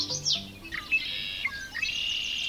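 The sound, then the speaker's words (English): A Wilson's snipe winnowing in spring, coming from up in the sky over low marshy spots in open country: a steady, fluttering whistle with rising and falling sweeps, heard alone and at moderate volume, with no voices present. “It's the winnowing sound of the Wilson's snipe.”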